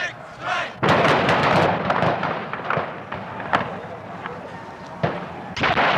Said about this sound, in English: This weekend, the country marked another anniversary, the Kent State shootings, May 4th, 1970, when members of the Ohio National Guard fired live rounds into a crowd of students.